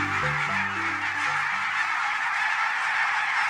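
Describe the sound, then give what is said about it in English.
A noisy flock of barnacle geese keeps up a dense, yapping chorus of honks, overlapping calls layered over a steady wash of sound, with no one speaking. “Barnacle geese are stunning birds.”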